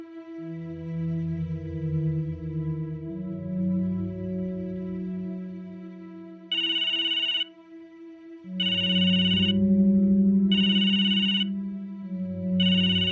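A mobile phone rings with a bright electronic ringtone, repeating in short, evenly spaced bursts over a sustained melodic backing. It is fairly loud, with no one talking.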